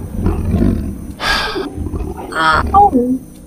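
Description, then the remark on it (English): A voice imitates the low growl of a large wolf-like beast called a Varda, with two short, rasping snarls separated by a brief pause and carried over a soft, rumbly breath. “And at that point, the large beast that Rain is not petting at the moment just kind of gives a little growl.”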